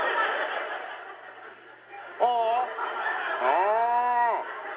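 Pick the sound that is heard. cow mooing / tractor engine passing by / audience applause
cow mooing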